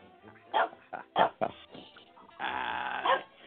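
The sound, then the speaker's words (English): A dog barks, a few short sharp barks followed by one longer, drawn-out bark that trails into a whine-like howl. “He loves a bark. He's a barking type dog.”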